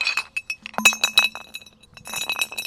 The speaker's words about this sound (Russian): В горницу входит седьмой козленок с рюкзаком, в котором звенят бутылки.